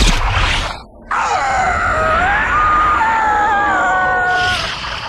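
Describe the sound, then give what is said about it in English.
In a movie scene, a man who has just been shot in the butt screams in one long, drawn-out wail that wavers in pitch, loud, over a constant rumbling background. A brief burst of noise and a short silence come first. “Here's Martin Lawrence screaming.”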